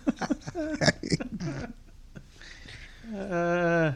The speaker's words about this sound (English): She said, impossibly burping.